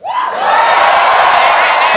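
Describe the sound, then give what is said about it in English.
A live audience erupts in loud cheering and whooping after being asked whether anyone lives in America, a dense wall of voices that swells quickly and holds steady for a couple of seconds, with scattered yells rising above the crowd. “America! Hey. Nice, nice, a local crowd.”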